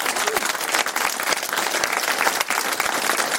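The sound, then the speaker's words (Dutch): A crowd applauds loudly and steadily for people being thanked with bottles of wine for supporting a charity, dense overlapping claps filling the whole stretch with a bright, crackling texture and no pause. “En dan wil ik een daverend applaus voor al deze mensen.”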